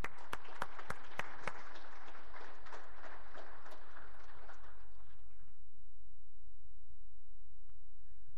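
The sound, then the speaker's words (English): A burst of audience applause for people who came up front during a service with prayer, dense crackling claps with a few sharp louder ones at the start, holding steady for about five seconds before quickly fading out to a quiet low hum. “So let's give them a hand.”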